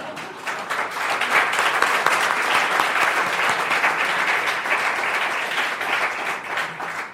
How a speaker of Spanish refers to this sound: Adelante, por favor. Gracias, un aplauso.